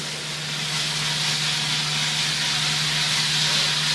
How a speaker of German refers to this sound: Wie ein Wasserfall. So, was wir jetzt machen ist, wir nehmen den Kaffee aus der Trommel, die haben 200 Grad, die Bohnen, die sollen jetzt abschrecken. Die sollen jetzt aufhören zu rösten.